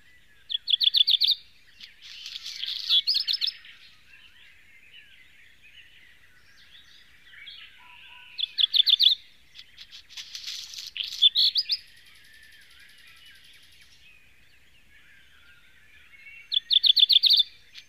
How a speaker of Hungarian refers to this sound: A szanticskán készült felvételben a házi rozsdafarkút hajnali madárkórus kíséri.